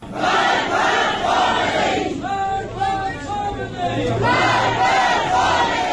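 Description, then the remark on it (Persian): Protesters at the mourning ceremony for Sam Beiranvand chant slogans in unison, a loud crowd whose voices rise in rhythmic bursts, with a brief dip in the middle before the chanting swells again. “در مراسم سوگواری او معترضین این گونه شعار سر دادند.”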